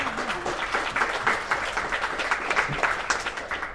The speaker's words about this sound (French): On peut peut-être simplement l'applaudir pour sa lecture, parce que c'est vraiment bien.